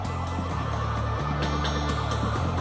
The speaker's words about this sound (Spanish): Él hacía de centinela en el exterior, enfrente del banco, y huyó en cuanto oyó que llegaba la policía. Reconoció las sirenas desde lejos.